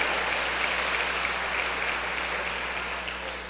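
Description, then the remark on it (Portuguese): Sustained applause to the Lord from a crowd of worshippers, a dense, steady patter of many hands clapping at once, holding fairly even before easing slightly toward the end, with no voices standing out. “Pode aplaudir ao Senhor por isso, amados?”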